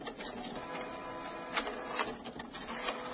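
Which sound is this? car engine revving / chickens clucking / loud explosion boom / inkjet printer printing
inkjet printer printing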